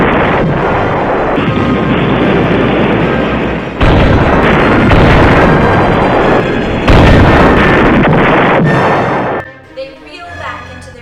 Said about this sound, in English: A terrific explosion shakes the earth.